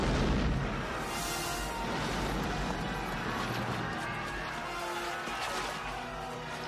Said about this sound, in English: And the nimble gunner, with linstock now, the devilish cannon touches, and down goes all before them!